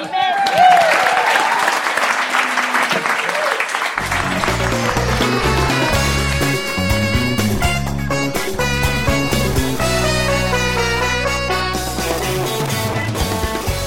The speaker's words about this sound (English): Okay, I think that's it for tonight. So if you could all thank the guests we had. I'll say the names first and a big round of applause.